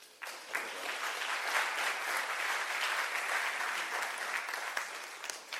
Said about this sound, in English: Just give him a clap.